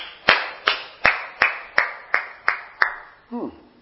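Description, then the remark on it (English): A church audience claps after a worship song, in steady unison rhythm, about eight sharp, evenly spaced claps with a short ringing tail, followed by a brief voice at the end. “Why should you clap for somebody who praised God?”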